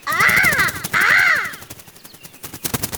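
Two loud, harsh caws from a crow-like bird ring out, each about half a second long, followed by fainter rustling and clicking noises.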